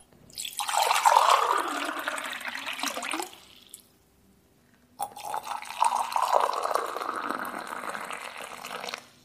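Water is poured for pour-over coffee in two steady streams split by a short pause, each a bright, splashing hiss whose tone rises slightly as the liquid builds up. No one speaks.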